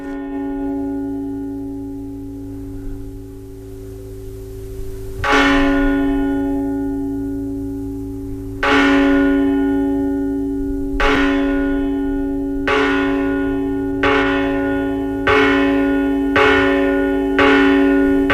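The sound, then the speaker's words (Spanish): A church bell at the church of Vírgala, in a 1988 Radio Vitoria recording, tolls the Angelus slowly and steadily, each loud strike ringing out with a long, shimmering hum that overlaps the next; the strokes come a few seconds apart, then quicken slightly, with no voices. “Es el Ángelus. Es uno de los toques de, sí, de los diarios.”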